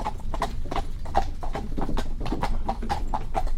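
The hooves of a seven-year-old pure Cob Normand mare clip-clop at a steady walking pace, about a dozen crisp, evenly spaced strikes, fairly loud over a low background rumble, with no talking.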